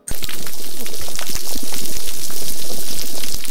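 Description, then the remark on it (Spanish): Dense underwater crackling and snapping of a coral reef on the sea floor, countless tiny pops fizzing constantly like something sizzling, steady throughout with no voices. “No suena agua, pero así suena precisamente un arrecife de coral.”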